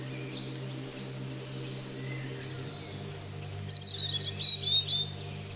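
A European robin sings on the Salreu walking route, a run of high, thin warbling phrases that grow louder and more varied toward the end, set against a steady low hum of background noise.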